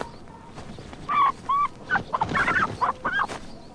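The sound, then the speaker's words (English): A hen in a coop squawks and clucks in a quick, agitated series of sharp, fairly loud calls, with no one speaking. “You ain't frightened of a dead hen, are you, laddie?”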